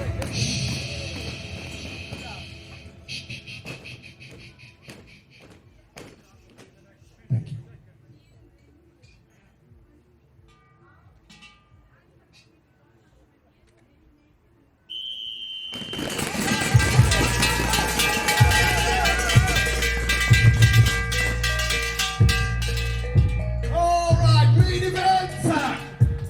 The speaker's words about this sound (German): Und wie so ein Finallauf beim Eliminator-Weltcup in Winterberg klingt, da hören wir jetzt mal rein, zurücklehnen und anschnallen.